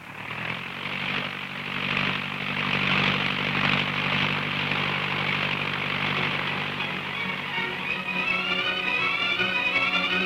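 airplane engine taking off

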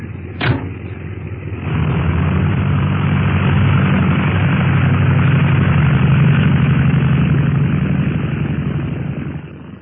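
airplane engine taking off

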